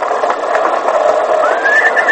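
A horse neighs loudly, a long, strained whinny lasting about two seconds whose pitch climbs toward the end, with no one speaking over it.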